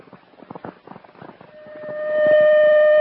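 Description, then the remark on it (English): A citywide alarm siren kicks in halfway through, a steady wailing tone that swells louder and holds to the end, following a stretch of choppy, pulsing noise. “Attention, citywide alarm.”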